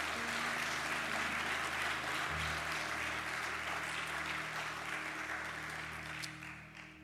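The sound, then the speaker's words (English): Sustained applause from a large church audience at Crossroads Baptist Church, a dense steady clatter of many hands over a low hum, holding strong for several seconds before easing slightly at the end. “And if it has, let's give God the praise one more time today.”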